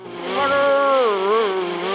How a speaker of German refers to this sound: Moppis Hörschutz funktioniert hervorragend. Er hört den Mixer nicht, aber er überhört auch die Rufe der uralten Kartoffel.